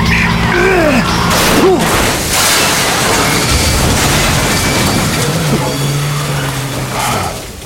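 A truck named Motherlode skids with squealing tires, then a heavy crash and rumbling impact as its right front corner is driven into another rig, followed by a sustained engine drone and scraping metal noises.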